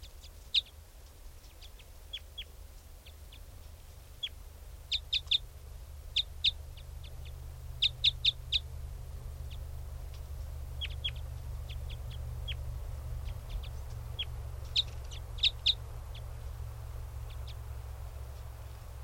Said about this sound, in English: Wild bird. Stop. That was a wild bird.